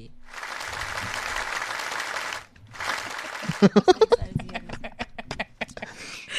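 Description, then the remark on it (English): Two bursts of dense studio applause for a show's guest, separated by a brief gap, then the clapping breaks into sharper, distinct claps mixed with high cheers and whoops before fading out. “And because one round of applause is not good enough, yeah, I mean, we had this just for you,”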